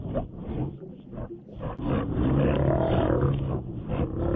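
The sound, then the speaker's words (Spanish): Deep, low sea lion calls bellow out loud, a rough growling roar that swells and continues steadily for a few seconds with no talking. “Hace sonidos muy graves.”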